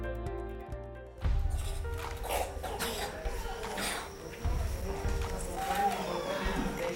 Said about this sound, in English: Can you hear them coughing? Can you hear that deep chest cough? Because the resistance is so low that the least little thing becomes a serious life or death issue for these children.